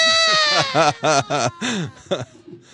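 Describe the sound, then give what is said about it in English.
A voice imitates a high-pitched, whiny action hero scream, mimicking how Wahlberg might scream in a Transformers movie, in a string of about five or six short, wavering wails that rise and fall in pitch, fairly loud, ending in a weaker whimper. “How can that be an action hero scream?”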